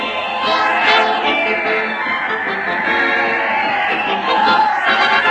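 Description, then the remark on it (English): A crowd chatters in a steady, overlapping murmur of many voices as people file into the old Town Hall, a dense continuous hubbub with no single voice standing out. “And there stands Fred with an egg beater whipping things up as the folks crowd inside.”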